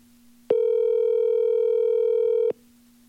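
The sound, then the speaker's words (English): A single steady electronic ring tone sounds through a phone line for about two seconds on an unanswered call, then cuts off abruptly, with a faint low hum running underneath throughout. “Well, this is a bad start. Well, now two people owe me phone calls.”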